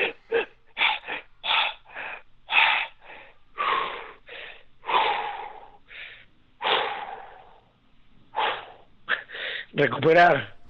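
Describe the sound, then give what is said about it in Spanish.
A voice imitates the rapid, gasping breaths of cold shock after getting into an icy lake through a hole in the ice, a quick series of sharp, ragged inhales and exhales, slowing slightly before ending in a strained, voiced gasp. “Recuperar la respiración.”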